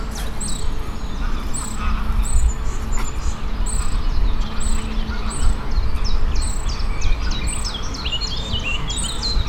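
Birds sing outdoors in the Volkspark Dutzenteich city park in a steady run of bright, repeated chirps and trills, over a constant low rumble of urban background noise; no one speaks.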